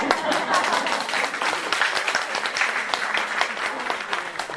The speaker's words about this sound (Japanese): 今日のお聞きくださった皆様方も最高でしたね。歌いやすかったと思います、はい、熱心に聞いていただいたので、じゃあお客様にも拍手しましょう。